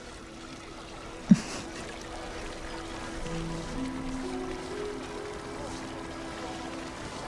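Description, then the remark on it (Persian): Water pours steadily into containers, a continuous splashing rush with a faint rising tone as they fill, briefly interrupted early on by a sharp knock. “بذارینم پر کن. مال منم بذار.”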